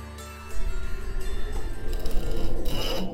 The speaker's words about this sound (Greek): Αυτή η ομάδα λοιπόν κάθε μέρα πριώνιζε ασταμάτητα το δέντρο της γης, το οποίο την κρατά όρθια και σταθερή, με την ελπίδα ότι κάποια στιγμή θα κόψουν το δέντρο και θα έρθουν τα πάνω κάτω στον πλανήτη, αυτοί συνέχιζαν ακάθεκτα το πριόνισμα.